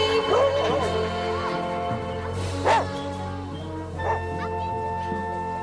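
A dog whimpers in high, wavering whines, then lets out two short, sharp barks a second or so apart, over a steady background hum.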